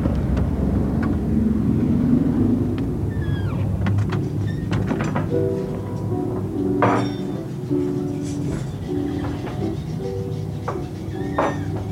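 The door of a small restaurant, still bearing a 'closed' sign, clicks and thumps open over steady low background rumble, followed by soft bumps and the faint murmur of voices as regular customers come inside.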